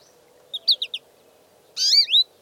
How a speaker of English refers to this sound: But one sure way to brighten November's damp and drizzly mood is to welcome birds into your yard with feeders and bird baths. The liveliness and calls of a batch of chickadees, nuthatches, jays, or finches will break the spell of a dreary day.